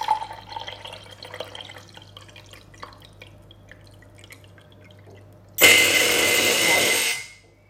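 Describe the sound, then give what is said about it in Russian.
Light drips and small clicks lead into a sudden loud, steady whir as a battery-powered pump dispenser fitted to a kettle, with three tubes over the cup and a plastic base holding the batteries, pumps water into a cup for about two seconds, then stops abruptly. “То есть получается, что прозвучал такой очень бодрящий звук, и чашка заполнилась жидкостью.”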